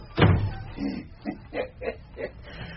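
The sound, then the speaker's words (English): A door shuts with a solid thud near the start, followed by a few short, muffled low sounds spaced out over the next couple of seconds. “We'll shut the door and be private, I think.”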